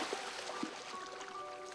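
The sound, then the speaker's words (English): Two people launch a motorboat: it slides out of mud and into a lake with a steady wash of splashing and trickling, punctuated by a couple of soft thuds, moderately loud. “Finally, it slides free of the mud and into the water.”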